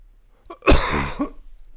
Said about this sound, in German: Muss schon wieder husten.